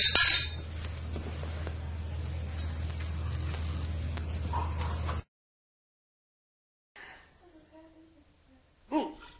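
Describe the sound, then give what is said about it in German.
Bright glassy clinks of glasses in a toast ring out near the start over a steady low hum, followed by a brief silence and another sharp clink at the end, with faint voices in the background. “Prost, Prost auf uns.”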